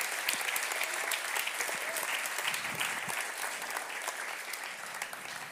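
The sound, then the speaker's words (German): A church audience claps steadily for the people who spent a week cleaning the church, a dense, even patter of many hands that holds at a fairly consistent level for several seconds without any talking over it. “Wollen wir mal den Leuten, die hier eine Woche geschuftet haben und hier alles auf Hochglanz wiedergebracht haben, mal einen Applaus geben?”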